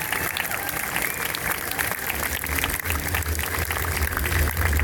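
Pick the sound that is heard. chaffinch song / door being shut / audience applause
audience applause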